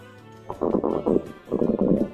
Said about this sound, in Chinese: 突然那奇怪的声音又响了起来，原来是一个小精灵睡着了，他在梦中偶尔打起响亮的呼噜，这就是茱莉亚听到的咕噜噜的声音。